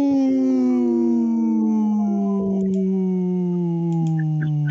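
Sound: wolf howling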